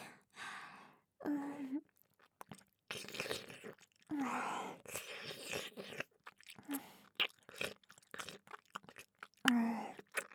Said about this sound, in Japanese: お耳の外側、食べられるの気持ちいいですか？